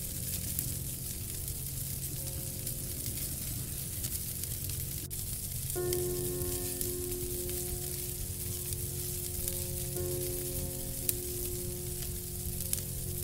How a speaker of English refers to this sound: There is no light leaking in from anywhere, and all you can hear is the relaxing, cozy sounds of the occasional pop and hiss from the fire that radiates and nurtures your comfort more and more.